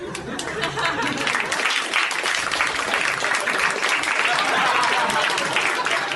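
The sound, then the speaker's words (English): Steady, dense applause of many hands clapping at an even loudness for about six seconds, with faint crowd voices mixed underneath. “He applauded himself.”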